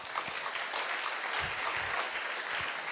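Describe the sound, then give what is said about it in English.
Steady applause from a church audience, a dense, continuous patter of many hands clapping at an even loudness throughout, with no voices over it. “That's clapping, not praying.”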